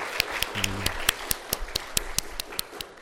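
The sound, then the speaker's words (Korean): A church audience applauds, giving applause to God after the vocal ensemble's singing. The applause is heard as steady, evenly timed claps, around a dozen crisp beats in a regular rhythm. It is fairly loud over a low background murmur, with a brief low hum early on. “영광의 박수를 하나님께 돌릴까요?”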